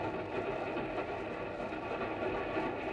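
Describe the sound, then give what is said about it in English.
A steady, continuous rumble of a westbound passenger train rolling along rails, heard from inside the carriage with a constant low mechanical drone and no speech. “And that's how, an hour or so later, a girl named Mary Marshall and a soldier named Zachary Morgan looked at each other from opposite seats of a westbound train.”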